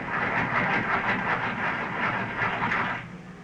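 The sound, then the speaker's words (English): A pencil sharpener grinds in a steady, raspy whir with a slightly pulsing texture, running loudly for about three seconds before cutting off. No one speaks. “I wish people would stop using that pencil sharpener.”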